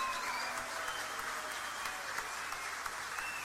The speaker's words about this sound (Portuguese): porque o timbre de galo jamais apagará a história desse ícone, esse missioneiro que eu peço uma salva de palmas. Viva Pedro Hortaça!